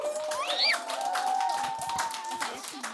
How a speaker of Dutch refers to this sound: En misschien wel vooral de laatste, want ik heb hier bij mij aan tafel 8 dames. Geef ze alvast een groot applaus.